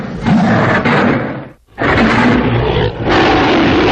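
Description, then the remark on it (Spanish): A massive, raspy beast's roar made from a lion's roar blended with a reversed tiger roar, two long loud bursts split by a brief silence, the second swelling back up eerily. “Pues esto es un león para adelante y un tigre hacia atrás, por ejemplo, mezclados ahí para que suene.”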